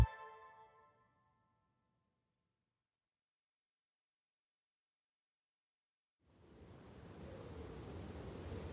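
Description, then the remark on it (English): A bitter winter wind whips along the River Thames in London, howling through Traitor's Gate at the Tower of London; it rushes in after a long silence, a steady broad roar with deep rumbling gusts at moderate loudness to the end; a faint musical tone fades out at the very start. “A bitter wind whips along the River Thames, howling through Traitor's Gate at the Tower of London.”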